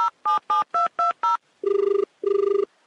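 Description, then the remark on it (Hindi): Six quick touch-tone keypad beeps are dialed, then two longer buzzing ringback tones follow as the phone call is transferred, clear with no voices. “मैं बात कराता हूँ, मैं कॉल ट्रांसफर कर रहा हूँ.”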